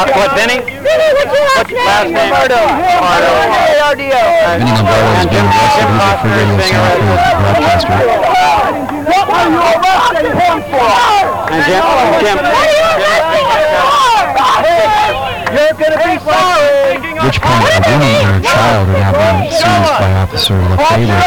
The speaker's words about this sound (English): Consternation in the crowd.